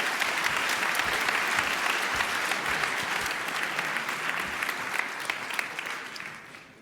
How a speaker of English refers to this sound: So give him a big applause.